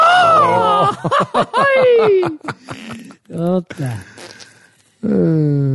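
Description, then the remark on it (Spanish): Loud vocal yelps attempt a mariachi grito, with high sliding wails breaking into choppy, laugh-like bursts, followed by a shorter second attempt and some speech. “No me sale el grito de mariachi, me da coraje.”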